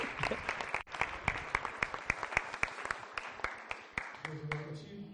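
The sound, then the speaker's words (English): A church audience applauds to praise the Lord and welcome the pastor back, with steady, dense clapping that carries on for several seconds, sharp claps popping out of the crowd, before a sustained voice or tone rises as the applause fades. “Come on, give the Lord praise and welcome Pastor back.”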